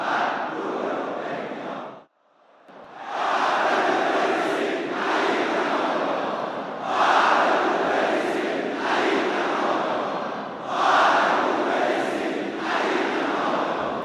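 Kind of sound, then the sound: crowd, crowd chanting slogans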